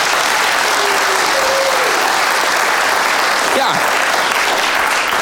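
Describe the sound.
Sustained audience applause, a dense steady clatter of many hands clapping at full loudness for several seconds, with a few faint whistles or voices rising briefly through it.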